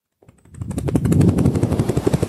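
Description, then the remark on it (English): A voice imitates a helicopter with a rapid, fluttering chop of repeated pulses that swell in after a brief quiet start and then hold steady and loud. “You want to hear my helicopter?”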